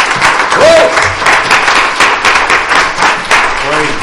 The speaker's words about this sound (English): Aren't you thankful that we have a prayer-answering God this morning? Could you join with me and give Him a hand clap of praise this morning?